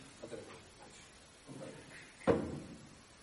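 A single door shuts with a firm thud partway through, its sound trailing off briefly, after a stretch of quiet room noise with faint muffled stirrings.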